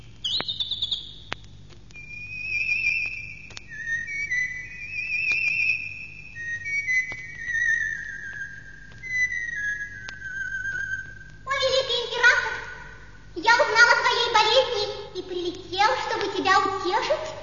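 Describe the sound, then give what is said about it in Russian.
A songbird sings outside a window, a run of sweet whistled notes, short trills and long gliding tones over several seconds, then a person starts speaking and the singing stops. “Но вот за окном послышалось дивное пение.”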